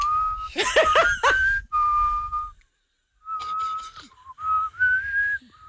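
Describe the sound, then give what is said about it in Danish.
Someone whistles a simple tune in clear, sustained notes, broken by bursts of breathy laughter early on, then a pause before the whistled melody resumes and rises at the end. “Ja, du er faktisk ret god til at fløjte.”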